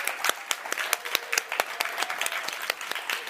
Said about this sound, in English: Can we actually give the Boston Public Library and all of the amazing librarians here a big round of applause?